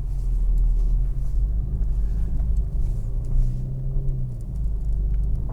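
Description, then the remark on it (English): A car driving along snowy, icy roads at -7 Celsius, with a steady low engine drone and continuous road rumble heard from inside the vehicle, fairly loud and constant with a slight swell partway through. “So really, I think we're just finding some excuse to get out and drive like a maniac.”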